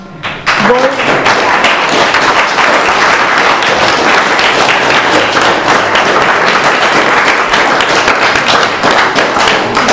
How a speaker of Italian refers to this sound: Allora, io ringrazio a nome di tutti voi, ma l'abbiamo già ringraziata con l'applauso,